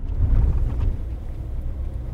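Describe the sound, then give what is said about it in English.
A pickup truck rolls up and parks on a dirt road on the Fort Mojave Reservation, by a river, to visit a pump that takes water from the river to central pivot irrigators; its engine a deep, steady rumble, briefly louder at first before settling into a low idle-like drone. “Back on the Fort Mojave Reservation, Williams parks his truck on the dirt road to visit the pump that takes water from the river to large central pivot irrigators.”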